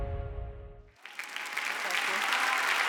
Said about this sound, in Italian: Grazie, grazie. No, prenditi tutto l'applauso.